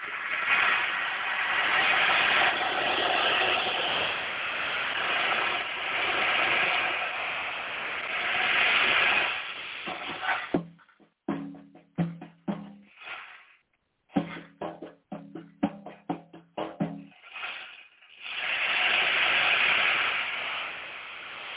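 An ocean drum's beads roll in long, steady surf-like washes, then break into short choppy swishes and pauses before a final sustained rush of hissing sound.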